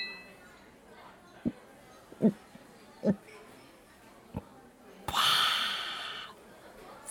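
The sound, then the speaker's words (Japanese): Beer glasses clink together in a toast celebrating a project's success: a few short knocks, then a brighter ringing clash that trails into a fizzy, hissing wash lasting about a second. “それではプロジェクト成功を祝して、まずはビールで乾杯。”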